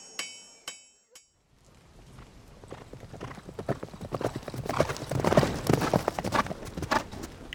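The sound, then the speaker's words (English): Horse hooves clip-clop at a steady, quickening rhythm, growing louder and busier as the riding goes on, after a few sharp metallic clinks at the start. “All right, let's ride over to the side of the fortress quietly and hide the horses behind that bush.”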